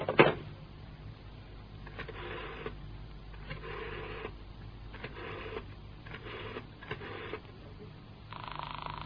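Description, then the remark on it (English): A muffled telephone ringing tone sounds through the line, buzzing in short repeated bursts over a steady hum after a sharp click at the start, with no one answering, while calling Major Keane's flat. “That's the usual turn of the ringing signal.”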